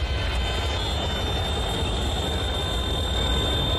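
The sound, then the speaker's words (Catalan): A steady, dense roar of daytime street traffic with car horns, in front of a home by the Parc del Fòrum in Barcelona, with deep low rumbling throughout and a thin, sustained high-pitched tone riding on top; no distinct pauses or voices stand out. “Vull dir, no és entrada a la matinada, de dia, escoltem clàxons, també hi ha molt més trànsit, etc.”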